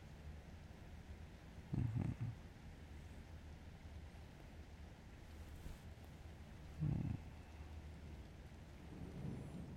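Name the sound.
distant thunder rumbling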